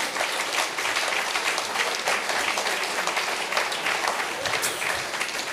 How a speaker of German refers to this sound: Ein Applaus für ihn in Abwesenheit.